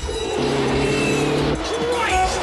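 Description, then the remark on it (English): A bus roars the wrong way down a street in Chicago through heavy oncoming traffic, its engine loud, with a sustained horn-like blare in the middle and a brief tire squeal as it swerves, all in a steady, dense din. “Danko swerves through the oncoming traffic, then smashes through an ornamental fountain.”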